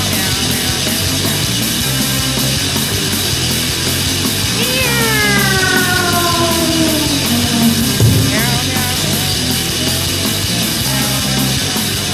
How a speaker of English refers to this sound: That was the sound of a cat being catapulted. That was horrible. I'm sorry. Well, she landed on her feet.